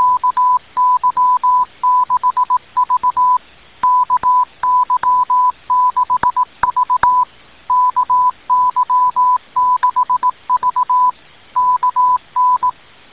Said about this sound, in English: CW Morse code.